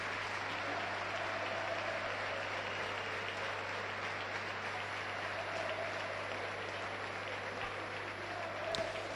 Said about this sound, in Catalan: Espera, ovació, no?, per als nostres. És que se la mereixen.